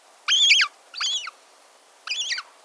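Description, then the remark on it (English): A hungry young gull, tagging along as its parent scavenges the beach for tidbits, gives three thin, high-pitched begging whistles with slight downward slurs, the first longest, the last after a brief pause, clear against a quiet background. “We're hearing the call of a hungry young gull, tagging along as its parent scavenges the beach for tidbits.”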